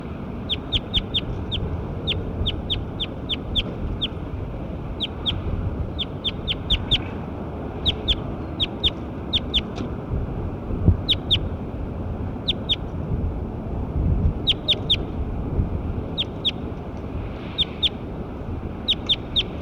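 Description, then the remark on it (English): Recorded calls of a bird labelled Bird 9 repeat throughout: short, sharp, high chirps in quick clusters of two to four, sounding every second or so over a steady, noisy rumble. No one speaks. “Start recording Bird 9 again.”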